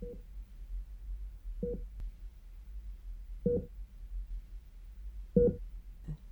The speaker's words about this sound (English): Mother, I'm finding it rather hard to fall asleep. Could you please turn off that odd beeping noise?